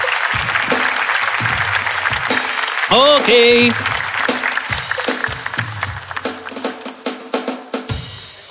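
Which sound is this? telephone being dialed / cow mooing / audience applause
audience applause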